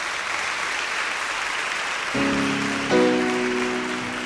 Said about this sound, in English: beautiful hand of applause to left center and our pastor and director of choir, ….